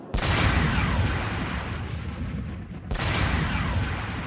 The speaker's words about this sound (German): Dreißig Kanonenschüsse verkünden auf der Stelle diesen ersten wichtigen Akt der Volkssouveränität.